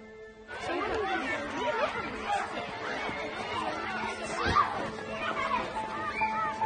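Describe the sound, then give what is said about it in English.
A crowd of children playing and chattering outside a school, many high voices overlapping in a steady, lively babble with occasional shouts and bits of laughter, holding at an even loudness throughout. “Sarah sits in her car watching the kids in front of the school.”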